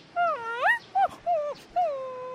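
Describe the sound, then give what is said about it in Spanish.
A small female dog whimpers in several high, wavering whines, with short yips between them, fairly clear, over a quiet background. “Flor, perrita desobediente.”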